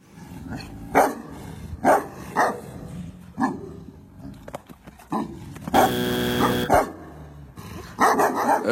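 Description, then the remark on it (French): A large dog, a Tibetan Mastiff, barks in a series of deep, loud, booming woofs spaced about a second apart, with one longer, drawn-out bark in the middle. “C'est un mastif du Tibet”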